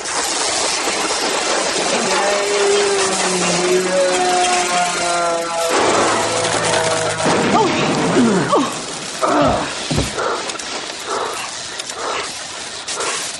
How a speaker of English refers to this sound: It exploded. Yeah. When we started shouting and moving, it couldn't tell our limbs apart from the fan blades. It read us all as one big target. And charged right into it.